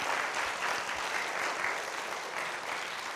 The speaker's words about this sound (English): Thank you. Thank you very much. I know you're not applauding my lack of melody, but you're applauding the words.